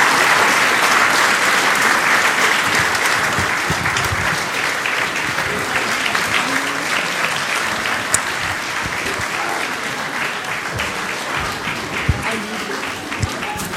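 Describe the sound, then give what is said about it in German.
Loud, sustained applause from a large audience as the nativity-play children come onto the stage, a dense wash of clapping that holds steady for the whole stretch and eases only slightly toward the end, with no voices rising above it. “Und jetzt brauchen wir mal einen ganz großen Applaus.”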